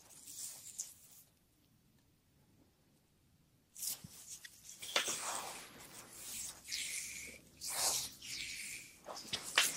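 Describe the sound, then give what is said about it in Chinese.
Soft rubbing and swishing of hands on skin during a hand massage, starting after a few seconds of near silence and continuing in uneven strokes, with faint brushing textures and no talking. “首先我们先从手部开始按摩。”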